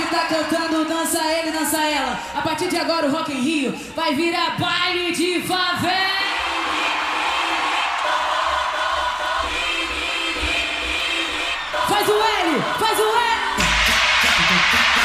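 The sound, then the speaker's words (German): A crowd at the Rock in Rio music festival cheers loudly and continuously after being asked to form an L for Lula with thumb and index finger, with many overlapping yells and whoops rising above a dense roar of voices, the noise swelling again near the end. “Und wie wir gerade gehört haben, kam das auch bei der Menge ganz gut an.”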